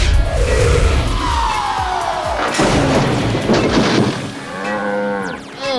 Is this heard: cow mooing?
yes